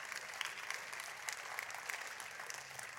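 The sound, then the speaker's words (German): Steady applause from an audience welcoming Bundestag President Bärbel Baas as a visitor, a dense, even patter of many hands clapping at once, sustained throughout with no voices standing out. “Herzlich willkommen, einen großen Applaus.”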